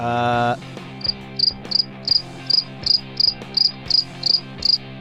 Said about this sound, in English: That was a long drop. That was a long cricket drop. We haven't done that one in a while.